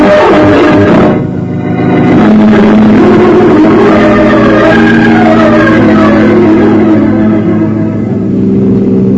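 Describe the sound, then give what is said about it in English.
A car engine roars and accelerates, its steady low drone rising in pitch as it revs hard, loud and continuous with no voices over it. “Better drive a little faster, Chris.”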